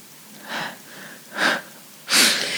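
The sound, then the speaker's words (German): A few audible breaths in a row, the last one the loudest: a sharp, airy rush of breath with a slightly wheezy edge. Softer breathy puffs come before it, and nobody speaks. “Habt ihr den Atmer gehört? Habt ihr ihn gehört?”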